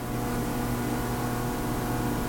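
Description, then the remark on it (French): A new refrigerator rumbles loudly with a steady, droning low hum and faint tonal whine, holding constant throughout without pauses or changes, and no one speaks. “J'ai dépensé 700 balles pour un nouveau frigo qui fait un bruit du tonnerre de Dieu, ça vrombrit.”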